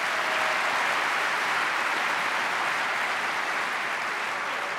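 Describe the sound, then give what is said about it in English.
An audience applauds the event's sponsors steadily, a dense, even wash of many hands clapping at constant loudness with no voices heard. “Let's have a round of applause for sponsors.”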